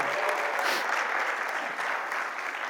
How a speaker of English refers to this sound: So, we're going to start by having them cheer you on. Okay? Cheer on this group. Cheer them on. Come on. Cheer them on. This group, cheer them on. Cheer them on.